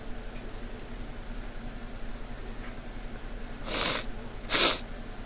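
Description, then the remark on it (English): A sneeze: a short breathy buildup followed by a sharp, loud burst near the end, over a steady background hum, with no talking. “don't know what's making me sneeze.”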